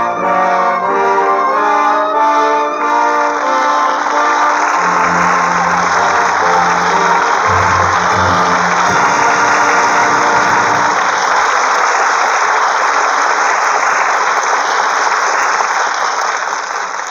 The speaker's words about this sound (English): With that well-deserved applause, our thanks to Jimmy Stewart and Joan Blondell, who come to the footlights for their curtain call.